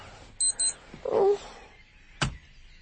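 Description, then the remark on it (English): An alarm clock, set for an extra hour, gives two quick, high-pitched electronic beeps, followed by a brief muffled rustle and then a single sharp click, with no one talking. “I set the alarm for an extra hour.”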